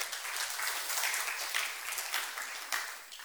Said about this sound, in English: Give her a clap.